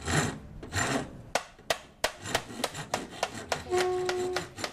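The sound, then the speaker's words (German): Careful hammering on a dented metal barrel marked flammable, in a small garage converted to a workshop in central Asunción where instruments are built from trash: a rough scraping opens, then a steady series of about ten sharp metallic taps, the last blows leaving a ringing, humming tone. “Mittendrin steht Fabio Chavez und hämmert vorsichtig auf einer verbeulten Tonne herum.”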